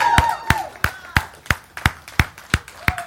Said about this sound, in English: Give the Lord some hand clap praise.